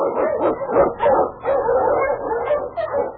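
A pack of sled huskies barks and yips excitedly, their overlapping calls coming in quick, steady bursts, loud, with no talking, in the radio show Challenge of the Yukon.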